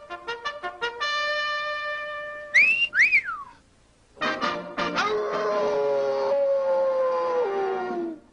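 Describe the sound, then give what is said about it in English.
A wolf howls in short rising and falling wails, set among loud, sustained tonal notes. The sound is clear, with no talking. “Once upon a time, there was a wolf.”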